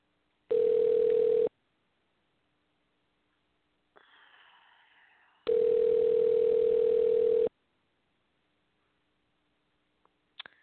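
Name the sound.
telephone dial tone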